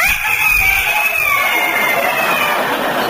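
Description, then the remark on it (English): A person loudly imitates a rooster's crow, one long, strained, high-pitched cock-a-doodle-doo held for about three seconds. “You know, you're not a puppy dog, you're a proud rooster. And it's time for you to crow because the sun is just coming up.”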